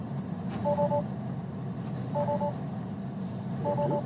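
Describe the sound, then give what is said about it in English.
A Tesla car pulling up, its low steady road rumble filling the background while three short two-tone beeps sound at even intervals, roughly every second and a half. “He got a Tesla, too.”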